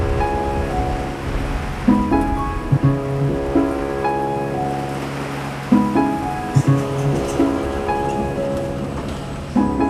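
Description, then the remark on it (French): Steady hissing rain and rolling surf fill the background of a stormy scene, layered with sustained musical chords that shift every few seconds, with soft low thuds marking the changes. “C'est jour de tempête.”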